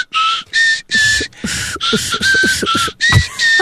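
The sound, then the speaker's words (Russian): A person whistles through their teeth, without using fingers, in a series of about eight short, breathy bursts, each a thin high tone wrapped in airy hiss, loud with brief gaps between. “Еще через зубы я свистел все детство, но сейчас почему...”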